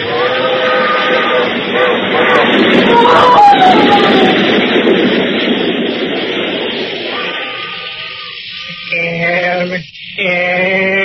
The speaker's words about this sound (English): Train's coming, Sigh. She's coming fast.